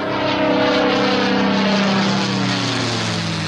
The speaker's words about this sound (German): Und ich bin sicher, Sie wissen, was das hier für ein Flugzeug ist.